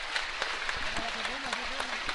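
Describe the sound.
Spectators at a football match involving Leverkusen applaud as the WSV Ultras enter the north stand: a steady wash of many overlapping claps with sharper individual hits, while a man's voice talks over it throughout.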